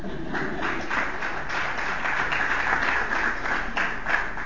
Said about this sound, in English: Just as a note, you guys can clap.